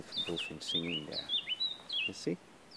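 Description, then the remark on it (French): A Eurasian blackcap sings a quick, bright warbling phrase of high whistled notes while a voice murmurs in short bursts underneath. “Fauvette à tête noire.”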